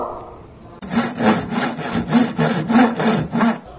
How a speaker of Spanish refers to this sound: Ahora tenemos un serrucho.